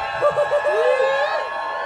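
A live concert crowd cheers, with several voices whooping and hollering in a brief, lively burst of noise that carries on over about two seconds, answering a call for people from Durango.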